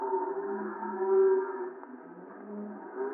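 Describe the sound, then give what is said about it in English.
Cows moo in a long, drawn-out, overlapping chorus that fills the whole stretch, low sustained lowing in the western town of Howdyville, with no talking. “Oh, just poking around the cows.”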